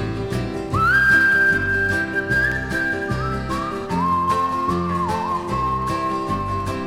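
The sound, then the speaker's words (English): A grandmother whistles the hymn melody "What a Friend We Have in Jesus", slow and gliding with sustained, clear notes, fairly loud over steady musical accompaniment. “Grandma whistling, what a friend we have in Jesus.”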